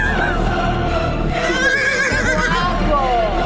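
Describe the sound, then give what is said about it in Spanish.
A horse whinnies loudly, its high, shaky call sweeping up and down in pitch for a few seconds over a dense, busy background with a hint of voices. “Ya le ponen caballos, Carmina Burana.”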